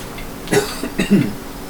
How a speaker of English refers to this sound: Look at that, it picked up that cough as far away from the mic as I was. That is impressive. I love this microphone.